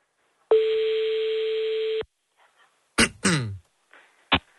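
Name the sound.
phone call ringing tone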